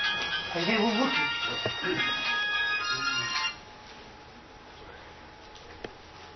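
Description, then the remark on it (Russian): A mobile phone ringtone plays steady electronic tones for about three seconds over a man speaking at a meeting, then cuts off abruptly, leaving quiet background noise and a faint click. “Выключайте, пожалуйста, мобильник, когда приходите на собрание.”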